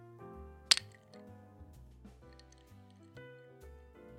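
glasses clinking

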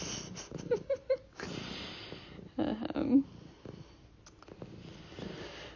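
cat purring

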